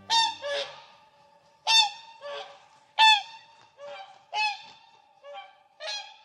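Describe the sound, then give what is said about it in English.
Loud, brassy honking calls from a whooper swan, one of the largest flying birds, about six bugle-like blasts in paired bursts at a steady pace, clear with no voices. “Swans like this Hooper swan are impressive animals.”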